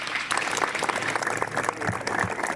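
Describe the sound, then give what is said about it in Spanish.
Audience applause at a Tacoronte town hall event, welcoming the author of the promotional poster for the Fiestas del Cristo de Tacoronte; it breaks out and holds steady, a dense, fairly loud patter of many hands clapping at once with no voices over it. “Un aplauso para recibirle,”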